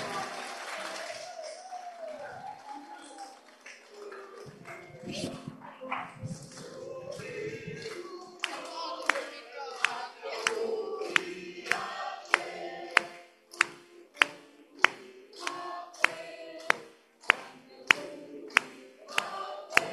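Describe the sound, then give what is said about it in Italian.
A crowd of people applauds at a birthday celebration for the Unione, after candles are lit on a cake, the dense scattered clapping gradually giving way to loud, steady rhythmic claps in unison, with a few voices mixed in. “Io credo che dopo l'applauso sia ora di fare il taglio di questa magnifica torta.”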